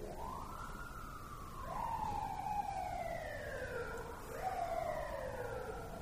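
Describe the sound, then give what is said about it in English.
An emergency vehicle siren wails outside, its pitch sweeping in long descending glides that repeat, fairly loud over a steady background rumble of traffic. No one speaks. “Now, of course, you're not going to be happy to hear a siren, but you will be happy that you're present to hear the siren.”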